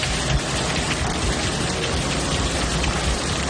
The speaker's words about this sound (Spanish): Pues eso, lluvia, mucha lluvia la pasada tarde y también esta madrugada.